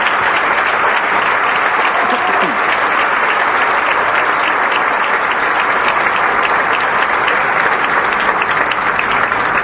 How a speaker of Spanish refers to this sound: Vamos a darles un aplauso muy fuerte a toda la familia CONAFE que está hoy aquí acompañándonos.